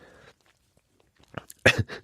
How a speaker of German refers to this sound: Ah, du hast dein Geschmatz. Das ist jetzt aber, das ist Service.